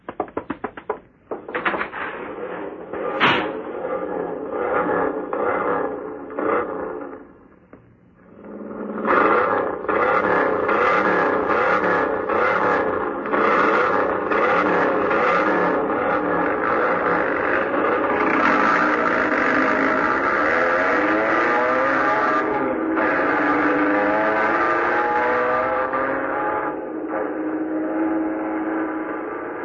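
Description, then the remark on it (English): Several car engines rev loudly and continuously during a race, their whining pitch rising and falling together in a sustained roar, preceded by a brief stretch of quieter, rattling mechanical noise. “The way they handle those cars, you don't know.”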